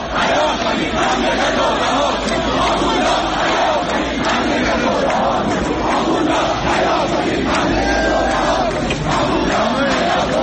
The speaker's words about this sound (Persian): در رشت نیز تظاهرکنندگان شعارهایی را فریاد زدند.